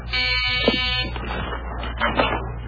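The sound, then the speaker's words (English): A doorbell buzzer at the front door gives one harsh, steady buzz lasting about a second, rich in overtones, then cuts off into a stretch of muffled rustling and shuffling noise. “That's the front door.”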